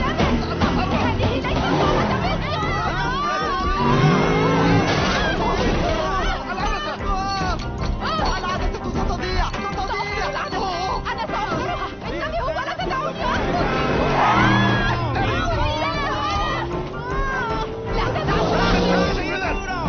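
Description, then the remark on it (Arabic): Congested traffic on a bridge rumbles steadily: engines idling and revving, layered with a constant murmur of many voices and street commotion, with no break for the whole stretch. “لا، لا نستطيع أن نقرر، هناك ازدحام على الجسر.”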